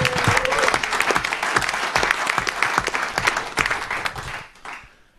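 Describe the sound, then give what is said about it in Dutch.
A crowd at a club gathering applauds the club's sponsorship committee, clapping loudly for about four and a half seconds, a dense burst of many hands with sharp individual claps standing out, then the applause quickly fades away. “Dus die mensen die doen echt fantastisch werk en daar wil ik echt een oorverdovend applaus voor hebben.”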